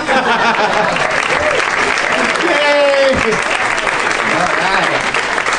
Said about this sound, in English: Did you hear how loud they clapped for me after she came out? Oh, the applause kept going for you, essentially. She never even got her moment, really.